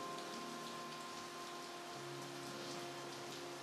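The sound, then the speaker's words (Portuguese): Steady rain patters continuously in a soft, even hiss, with a faint sustained tonal hum running beneath it and no voices. “To feel the rain.”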